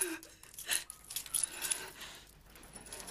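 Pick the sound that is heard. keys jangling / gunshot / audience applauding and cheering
keys jangling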